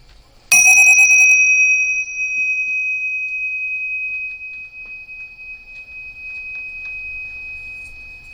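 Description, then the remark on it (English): A big bell is struck once, loud, its bright ringing tone hanging in the air and slowly fading away over several seconds. No one speaks. “So we're going to have to go fast, because otherwise the big bell is going to come and interrupt us.”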